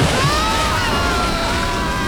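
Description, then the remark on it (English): A heavy wave crashes over a small boat during a whale hunt, a loud, continuous rush and slosh of water that pours in and churns steadily without pause. “A wave swamped us.”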